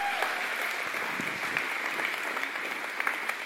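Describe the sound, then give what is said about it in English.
An audience applauds students steadily, a dense patter of many hands clapping at an even, sustained level throughout with no voices standing out. “Man, I know y'all are probably all clapped out, but could y'all give it up for those students one more time?”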